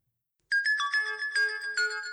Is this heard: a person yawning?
no